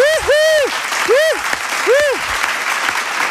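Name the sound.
applause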